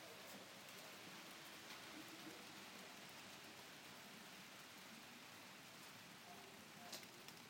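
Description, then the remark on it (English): Steady rain falls throughout, a continuous, even hiss of drops spattering on surfaces, soft and unbroken from start to finish with only slight swells in intensity. “Lovely to hear the rain.”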